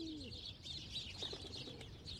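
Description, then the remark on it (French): Birds call outdoors, with soft pigeon-like coos low down and a dense band of high chirps and twitters running throughout, steady, with no voices. “Et voilà, on laisse passer donc les oiseaux.”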